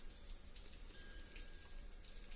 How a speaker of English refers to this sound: Allow your eyes to close and drift. Focus on the rain and the wind chimes.